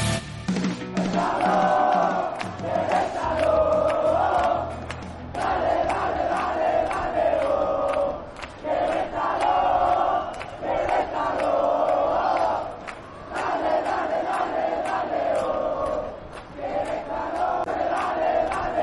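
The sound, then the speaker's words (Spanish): A football stadium crowd chants in unison, a loud, sustained rhythmic chorus rising and falling in repeated phrases of a few seconds each, with a thick roar of many voices underneath. It is the chant that will reappear at the Estadio Corregidora. “Estamos escuchando el canto que reaparecerá en el Estadio Corregidora.”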